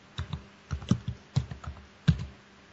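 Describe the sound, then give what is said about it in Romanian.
Typing on a computer keyboard while entering 1, a comma and "zaruri la gunoi" in quotes: a quick, uneven run of soft clicking keystrokes in short bursts, with a few slightly harder key presses standing out. No voices. “Am dat scrisă 1, virgulă, și între ghilimele zaruri la gunoi.”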